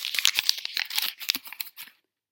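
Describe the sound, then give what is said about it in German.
A child rips open a bag with sharp crinkling and tearing bursts, a quick cluster of crackly rustles lasting about two seconds before stopping, moderately loud with no talking. “du darfst deine Tüte aufmachen.”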